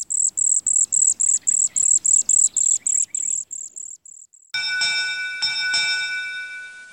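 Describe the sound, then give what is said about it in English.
Cedar waxwing calls, from the Stokes Field Guide to Bird Songs: a rapid series of very high, thin, hissing notes repeating in a steady rhythm and fading away, then a sustained ringing, bell-like tone takes over. “darting flights over water, and often dense flocks, cedar waxwings are a fascinating feathered treat, unless you're an adult aquatic insect.”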